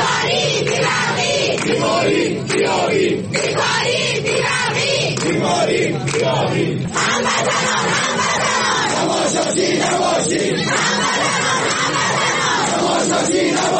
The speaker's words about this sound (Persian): مردم اهواز بعد از قطع شدن برق و آب و شدت گرفتن بحران در خیابان یا در برابر نهادهای حکومتی از جمله فرمانداری اهواز بارها دست به تظاهرات زدند.